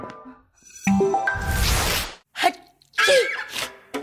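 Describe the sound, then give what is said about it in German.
A loud sneeze broken into four distinct syllable-like bursts: a long breathy explosion followed by three shorter voiced blasts, with a wheezy intake beforehand. “Oh, Sie niesen viersilbig.”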